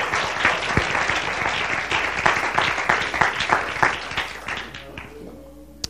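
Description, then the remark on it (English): An audience claps their hands unto the Lord after a prayer, in a dense, steady burst of applause that stays loud for several seconds, then thins out and fades into a few scattered claps at the end. “Could you clap your hands unto the Lord once again?”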